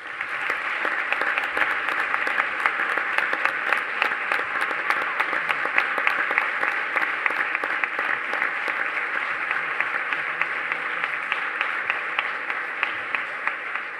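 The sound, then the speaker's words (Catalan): Sustained applause from an audience, a dense steady patter of many hands clapping for the whole stretch, fairly loud and even, with no voices standing out. “I perdoneu-me per tant d'aplaudiment, però en demanaré uno més i més fort i més calorós si pot ser.”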